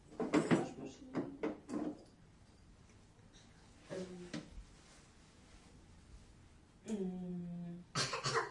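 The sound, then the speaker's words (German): A shower door slides and clatters: sharp knocks and rattles at first, then two drawn-out squeaky scrapes as it glides on its track, ending with another rattling bang. “Das ist die Dusche. Und da kann man die Tür.”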